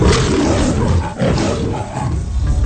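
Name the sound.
lion roaring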